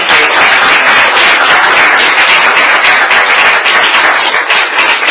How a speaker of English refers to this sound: Then I suggest that we give a warm applause to Judge Hovland.